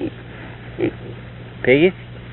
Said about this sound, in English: Hi, little piggy. Come on, talk.